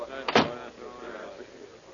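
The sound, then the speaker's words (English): A hut door shuts with a single solid thud near the start on an Alaskan winter morning before a mission briefing, then a low background murmur of voices carries on underneath. “Close the door, will you?”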